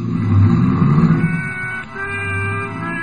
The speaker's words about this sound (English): climbed in his car and drove off fast.